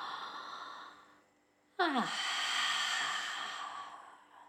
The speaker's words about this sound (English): And then relax the exhale and let it go. And without a pause, breathe in again. In and out of mouth or in and out of the nose. That's it. Relax the exhale, breathing in again straight away.